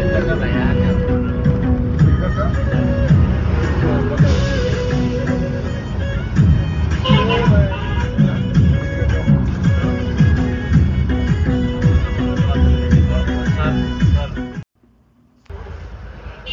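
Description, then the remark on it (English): Steady engine rumble and road noise fill the cabin of a small, fully packed minivan travelling by road from Kathmandu to Desi Sahar, with voices talking underneath throughout before the sound cuts off abruptly near the end. “On the roads. Kathmandu to Desi Sahar in a little van.”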